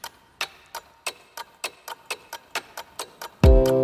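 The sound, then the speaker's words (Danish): Steady clockwork ticking, about three crisp ticks per second, clear, then a sudden loud resonant tone cuts in at the end, tied to the 2014 Christmas calendar series Tidsrejsen. “Vi skal helt ind i et urværk, bogstaveligt talt tilbage i tiden 2014, hvor julekalenderen Tidsrejsen fik premiere.”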